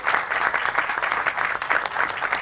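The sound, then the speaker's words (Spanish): A crowd at a forum at the Universidad Nacional Autónoma de México (UNAM) in Mexico applauds a guest researcher steadily, many hands clapping in a dense, continuous patter that stays fairly even in loudness throughout, with no voices on top. “Gracias, un aplauso para él también, por favor.”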